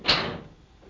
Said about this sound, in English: Close the door properly when you go.